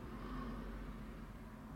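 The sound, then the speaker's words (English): A car driving by outside, heard as a steady, muffled low engine and road rumble, with no voices over it. “Because there's another car driving by.”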